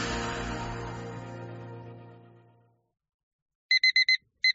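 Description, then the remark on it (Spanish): A car's front-door-open warning chime: a brief silence, then four quick, bright electronic beeps in a row, a pause, and two more. It follows a sustained, rich tone that slowly fades out. “Puerta delantera abierta. La vida te avisa constantemente de cosas.”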